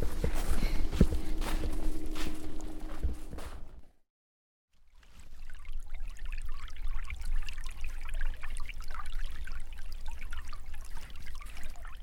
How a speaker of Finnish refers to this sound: Nämä purovarret kuttuu kyllä istumaan. Saattaa vierähtää pitempikin aika, kun katsoo tuota veen liikettä.